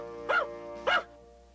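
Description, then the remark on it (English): A dog barks twice, two short, sharp yaps about half a second apart, clear over a faint steady hum, with no one talking. “Don't bark.”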